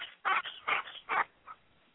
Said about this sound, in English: What is that noise? Is that someone's dog? Or? Yeah, man, I'm playing fetch with my dog.